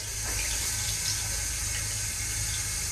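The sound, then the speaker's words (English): A tap runs steadily into a hand basin in a bar's toilets while a woman washes her hands beneath it, an even hiss of flowing water with soft splashing and no voices. “A tall woman in a black hooded cloak washes her hands in the basin next to her.”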